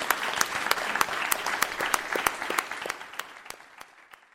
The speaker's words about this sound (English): Thank you. Thank you. Can we have a final round of applause for both of our excellent speakers today?